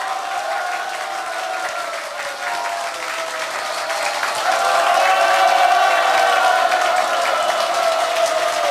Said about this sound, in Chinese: 给自己热烈掌声鼓励一下。